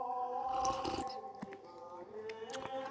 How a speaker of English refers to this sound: This is the last couple sips of our green tea this morning.